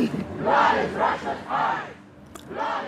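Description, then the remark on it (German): Femen and Pussy Riot activists chant the German slogan "Blut ist Russlands Kunst" in unison, protesting Russia's participation in the Venice Biennale; loud rhythmic shouted phrases rise and fall in repeated bursts with brief gaps between them. “Blut ist Russlands Kunst, das skandieren die Aktivistinnen von Femen und Pussy Riot aus Protest gegen Russlands Teilnahme an der Biennale in Venedig.”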